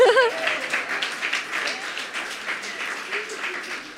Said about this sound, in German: Gib mal einen großen Applaus